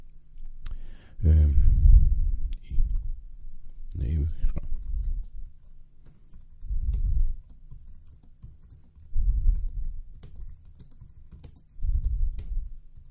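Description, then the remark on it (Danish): Rapid clicks of typing on a computer keyboard, fairly loud, in irregular bursts with short pauses, alongside some low thumping handling noise, as text is typed into a wiki page in Fronter. “Og så kan jeg så bare skrive her.”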